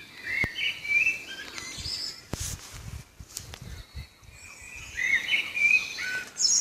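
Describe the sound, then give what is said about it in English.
Birdsong recorded by a taxi driver at 5 o'clock in the morning at dawn, several birds trilling and chirping, with bursts of bright warbling at the start and end over a soft outdoor background hiss. “They're still talking about birdsong as well, and a taxi driver sent us on a recording he did.”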